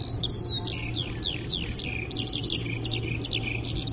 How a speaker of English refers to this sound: So here is a poem I wrote about the first time I ever heard a skylark singing. It was at Sunrise Celebration Festival 2007.